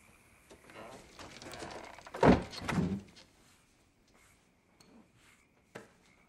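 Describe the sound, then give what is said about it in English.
A shed door swings and shuts with a solid thud, followed by a second lighter knock, then quiet with a faint click afterward. “Come in and shut the door.”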